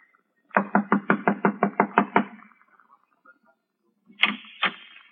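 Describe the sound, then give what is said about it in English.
A rapid series of about nine firm knocks on a wooden door, evenly spaced, followed after a pause by two more knocks. No one speaks. “I'll knock on the door and try it again.”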